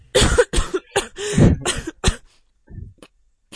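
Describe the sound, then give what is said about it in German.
A burst of strained, harsh coughing after choking, six or seven rapid hacking coughs, trailing off into a softer throat-clearing rasp near the end. “Da würde ich auch erstmal angestrengt husten. Ich hab mich gerade verschluckt.”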